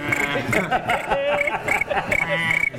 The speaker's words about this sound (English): Crickets.